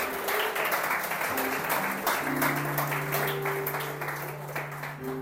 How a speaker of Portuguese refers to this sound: Se é para Jesus, aplaude com vontade.